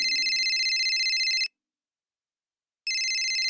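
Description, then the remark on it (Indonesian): A telephone rings with a bright electronic trill in a music studio, sounding in two bursts separated by a pause of silence, loud. “Adik-adik, mohon maaf, kakak harus menerima telepon.”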